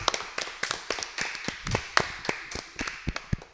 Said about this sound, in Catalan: Un fort aplaudiment!